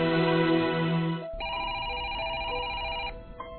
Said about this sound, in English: While working in her office, Marilyn receives a phone call.